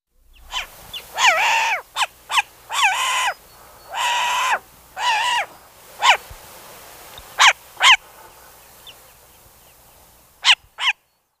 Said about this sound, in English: Short-eared owl.